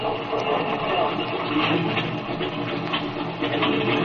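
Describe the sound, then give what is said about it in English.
A propeller airplane's motor, started from the rear cockpit and left to warm up, drones steadily at idle, a dense, even rumble with a rough, rattling texture that holds at the same loudness throughout, with no voices. “Well, I guess I'd better get in this rear cockpit and start the motor.”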